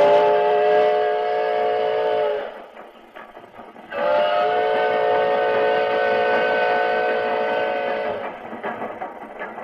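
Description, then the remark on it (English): A steam locomotive in the CBS Radio Workshop production The Ballad of the Iron Horse sounds two long, steady, chord-like whistle blasts, the second longer than the first, over a rumbling, rhythmic chugging that continues between and after them. “Oh, he puffed and he panted, this old iron horse. Black and smoking cinders, a mark on his course.”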